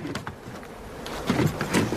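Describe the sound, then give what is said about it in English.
Bees buzz around a hive in Sonoma in a low, steady hum, with a few louder passes as individual insects fly by. Very few bees are left in the hive, a case of colony collapse. The activity sounds sparse rather than dense. No one speaks. “And these particular bees happen to show up in Sonoma, and let's go ahead and play that.”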